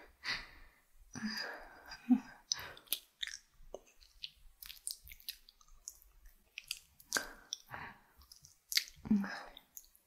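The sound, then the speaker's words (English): Heavy breathing in uneven bursts, with breathy sighs and sharp gasps between quieter pauses, plus faint wet mouth sounds. “Your breathing's changed.”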